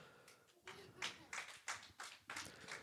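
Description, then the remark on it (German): A thin, sparse smattering of applause from a small crowd for guests: a few hands clapping in soft, evenly spaced bursts for a few seconds, fairly faint and lacking any real enthusiasm. “Jetzt so, mal ganz kurz einen Applaus doch, haben für unsere Gäste.”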